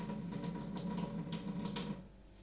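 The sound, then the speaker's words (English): A kitchen tap runs cold water in a steady, hissing rush with faint splashing as meat is rinsed at the sink to wash off salt and sugar, cutting off after about two seconds. It is fairly quiet, with no voices. “I'm going to rinse them well under cold water.”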